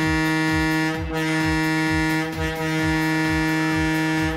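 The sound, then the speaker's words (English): A diesel train's air horn blares in one loud, unbroken chord of several tones, held steady for the whole clip while a regular low thumping pulses beneath it. “When diesel engines replaced the steamers, the whistles were replaced with air horns that sounded like this.”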